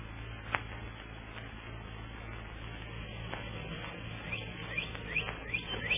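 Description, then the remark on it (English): Faint, scattered bird chirps at dawn as the birds wake up, growing a little busier toward the end, over a steady low electrical hum, with no voices. “Birds are waking up, Plunger.”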